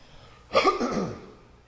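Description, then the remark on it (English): A single loud cough into a lapel microphone bursts out abruptly after near silence, rough and throaty, trailing off over about a second with no talking around it. “Bad thing about having a lapel mic, you know, because it's right here and you start to cough and everybody gets to hear very intimately what's going on in your throat.”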